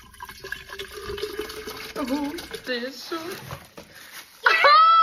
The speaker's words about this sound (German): Ihr macht euch ja immer über meinen Stanley Cup lustig. Ich verstehe das gar nicht. Wir füllen jetzt das gute Wasser mal hier rein.